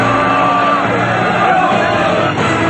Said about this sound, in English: The crowd chases them.